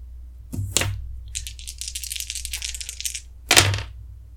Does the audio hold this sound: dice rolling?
yes